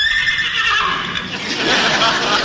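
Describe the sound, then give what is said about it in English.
A man's voice mimics a horse's whinny, a loud, drawn-out neigh with quavering high tones that trails into a breathy, noisy finish, alone. “What's your horse so excited about? That wasn't the horse. That was me.”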